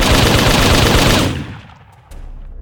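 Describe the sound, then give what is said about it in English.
A loud, rapid volley of blaster fire crackles in dense bursts for over a second during a firefight in a park, the Parque Vicente Fernandez, then cuts off, leaving a low rumbling tail and faint scattered shots. “Out in the park, blasters were crackling and grens thumping as the two sides slugged it out in a conventional firefight.”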